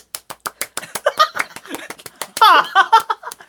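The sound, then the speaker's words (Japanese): Fast, evenly spaced, crisp hand claps, about eight per second, done as a high-speed clapping attempt; partway through, someone bursts into laughter over the steady clapping. “高速拍手どうぞ。”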